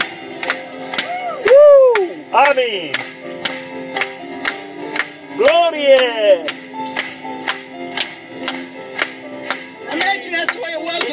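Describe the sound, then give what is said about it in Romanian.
An audience claps in a steady, even rhythm throughout, loud, while voices call out exclamations over the beat. “Putem să-l aplaudăm încă o dată?”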